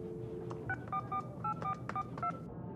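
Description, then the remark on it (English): A telephone number being dialed: a quick, steady series of about eight touch-tone beeps, each short and clear, over a low background hum with no voices. “If you want to find out what's going on in business, pick up the phone and talk to the right people.”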